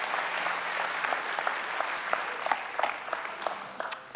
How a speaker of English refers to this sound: Would you give Jace a big round of applause? Thank you. Hey, dude, thank you so much. God bless.